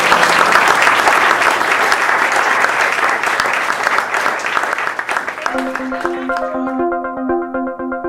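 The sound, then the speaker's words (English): A crowd claps steadily and loudly for several seconds at the end of an evening NAREP record industry presentation. Partway through, a simple melodic tune fades in beneath the applause as the clapping begins to thin out. “So I want to thank you very much for coming this evening. Huge round of applause.”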